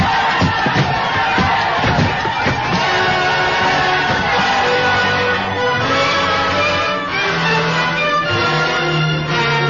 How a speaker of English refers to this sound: The crowd outside, they're pouring through the gate.